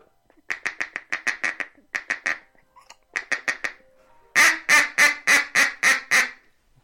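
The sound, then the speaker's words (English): Rapid bursts of a feeding chuckle blown on a brand-new, fairly inexpensive duck call, quick staccato clucks in short rhythmic strings, then a louder run of six or seven harsher, drawn-out quacks, clear with no talking. “That's is a feeding that chuckle.”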